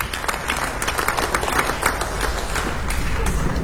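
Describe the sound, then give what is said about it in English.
A crowd at a live music show applauds a singer invited onto the stage, steadily, a dense wash of many hands clapping at once with sharp individual claps poking through, holding a fairly even loudness for a few seconds. “Honey, your applause.”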